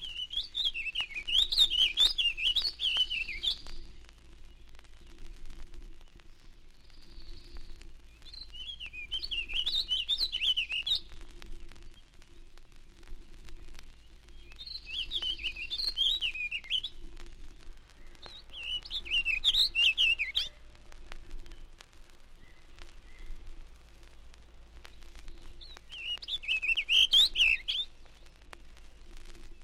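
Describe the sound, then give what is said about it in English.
A warbling vireo sings five rapid, rambling warbled phrases, each lasting a couple of seconds and separated by short pauses, heard clearly against a quiet background with no talking. “Warbling vireo sings a continuous warble from the treetops, similar to that of the purple finch, but with a distinctly rising inflection at the end.”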